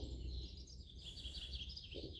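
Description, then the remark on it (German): Several different birds chirp and twitter continuously in a forest over a soft, steady outdoor rumble, a quiet woodland chorus with no talking. “Nimm die Geräusche wahr, die du hier hörst im Wald. Die verschiedenen Vögel,”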